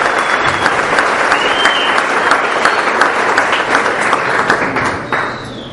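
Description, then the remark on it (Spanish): A crowd applauds steadily, a dense wash of many hands clapping at an even, loud level for about five seconds before tapering off slightly at the end. “El aplauso de ustedes.”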